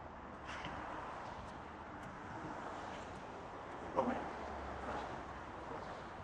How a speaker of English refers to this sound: There is a lot of noise from the traffic. Hopefully my sound system will be able to filter that out.